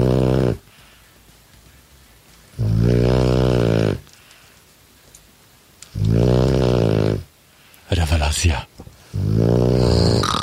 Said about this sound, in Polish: Tak właśnie brzmi chrapanie z domu ….